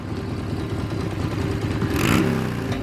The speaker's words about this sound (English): A man extends a kickstand on a motorcycle.